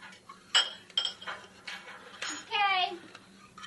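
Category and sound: household object, cutlery clinking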